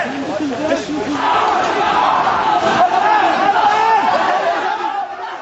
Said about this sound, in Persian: صدای ناله‌های دانشجویانی که به صورت گروهی و روی هم بر زمین خوابانده شده بودند با صدای فریادهای نیروهای انتظامی و لباس شخصی ها در هم می پیچند.